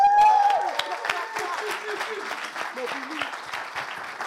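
A crowd applauds and cheers for a 12-year-old boy being introduced, steady dense clapping with scattered cheers and whoops over it, loud at first and then easing slightly while staying busy throughout.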